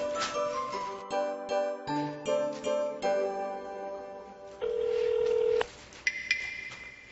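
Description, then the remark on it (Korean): A telephone rings for an incoming call with a quick series of bright electronic tones, then a steady held tone and a few higher beeps, heard alone and clear with no talking. “혹시 어디쯤 오나 해서 전화했어.”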